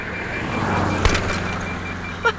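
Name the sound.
car driving on road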